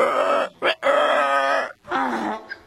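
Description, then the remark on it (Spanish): A human voice imitates a horse's annoyed snort with a few loud, throaty grunting groans, each rising and falling, broken by short breaths and ending in a faint huff. “El caballo resopló con fastidio.”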